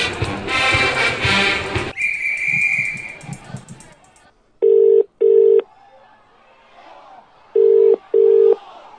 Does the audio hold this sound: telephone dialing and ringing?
yes